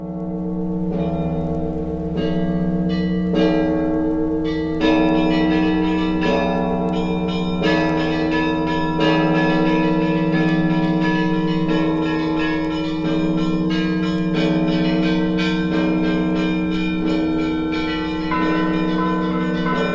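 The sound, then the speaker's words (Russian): Russian church bells rung by Vladimir Ivanovich Mashkov peal from the large belfry of the Moscow Novodevichy Convent, deep sustained bells droning beneath rapid, rhythmic strikes of smaller bells, loud and resonant throughout with no voices. “Это звон Владимира Ивановича Машкова на большой колокольне Московского Новодевичьего монастыря.”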